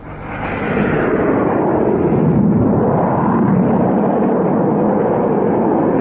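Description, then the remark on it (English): A low, fast aircraft, number two, coming in to land, roars overhead. The engine noise swells quickly within the first second, then holds as a loud, steady, rumbling roar with no voices. “Number two was pretty low and traveling fast, too.”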